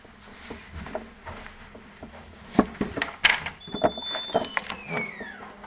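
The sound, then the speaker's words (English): A classroom door to the hall swings shut, with a couple of sharp knocks and a brief high squeak from the hinge, set against a low murmur of room noise. “You aren't in the hall, so I didn't close the door on you.”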